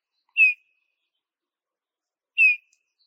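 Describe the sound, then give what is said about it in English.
A Eurasian bullfinch calls twice, each a short, soft, downward-sliding piping whistle, about two seconds apart, clear against silence. “Yes, I'm talking about you, Eurasian bullfinch.”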